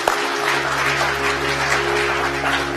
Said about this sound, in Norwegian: En jubel og applaus for Jesus, så jeg går inn i avslutningen.